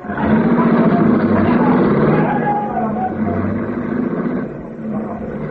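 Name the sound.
car driving off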